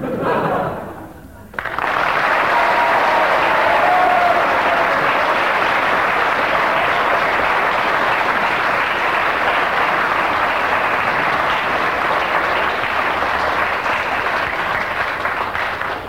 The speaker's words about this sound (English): Ten seconds of rather half-hearted applause there, giving him three marks.